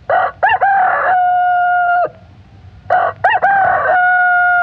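A rooster crows twice, loud, each call a long, drawn-out cock-a-doodle-doo with a rising start, separated by a brief pause, with no voices.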